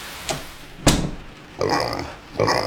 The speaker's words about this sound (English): It's the pig. It's what? The pig. Who's a pig? Your friend in here. It's Empress of Blandings, as large as life.